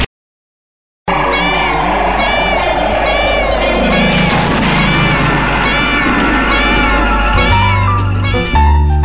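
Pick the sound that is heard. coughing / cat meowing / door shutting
cat meowing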